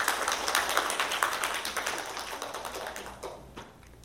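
An audience at a Christian gathering claps together to thank a church sister for her testimony, a dense, steady patter of many hands, fairly loud at first and gradually thinning and softening toward the end. No one speaks over it.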